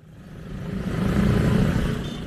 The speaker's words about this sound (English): Lahore was known as the City of Gardens. Now the soundtrack to its streets is traffic noise, not birdsong.